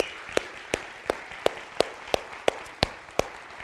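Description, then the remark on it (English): An audience claps in unison to thank the ministry team, about nine sharp, evenly spaced hand claps in a steady rhythm over a low background hiss, with no one speaking. “Let's give everybody a great big hand clap this morning.”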